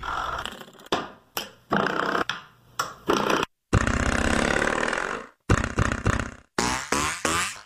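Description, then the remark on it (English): Door springs struck with a hammer in an irregular series of loud, sharp hits, each giving a twangy, buzzing metallic ring, some short and clipped, others rattling on for a second or more. “Every one of these sounds is a door spring. It's a hammer.”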